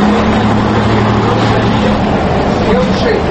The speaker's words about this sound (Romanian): La gara auto din centrul capitalei, la ora amiezii, mai multe microbuze și doar câteva autobuze își așteptau călătorii. Autocarul de pe ruta Chișinău-Puhoi-Varatic, în care am urcat și eu, urma să pornească în câteva minute.